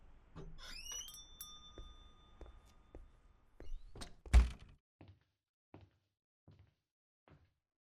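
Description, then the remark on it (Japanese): The door of a book café on a quiet small lane swings open to a ringing bell chime that lingers, then shuts with a single heavy thunk, followed by a few soft, evenly spaced footsteps fading away. “不思議に思ったが、どこか懐かしさを感じる建物に興味を惹かれた私は、扉に吸い込まれるように店の中に入ってしまっていた。”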